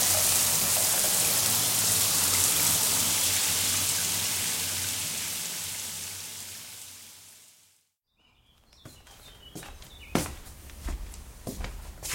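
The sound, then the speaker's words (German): Steady rushing water like a running shower fills the first eight seconds, fading slightly before cutting off abruptly. Quieter clattering and a few sharp knocks follow in the near silence. “Ich bräuchte bitte wieder Wasser.”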